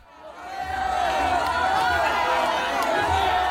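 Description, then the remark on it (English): A large crowd cheers and shouts together in a dense, sustained roar that swells within the first second and stays loud, with many overlapping voices, greeting Matteo Salvini at a rally for his League party. “Matteo Salvini greeted by cheering crowds at a rally for his League party.”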